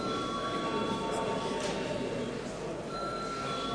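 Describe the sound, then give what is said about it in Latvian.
The voting bell of the Latvian parliament, the Saeima, rings continuously for several seconds before deputies vote on a bill, a steady, buzzy electric ring with sustained high tones and no pauses, moderately loud over faint background murmur. “Lūdzu zvanu.”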